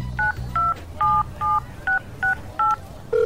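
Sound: telephone keypad dialing tones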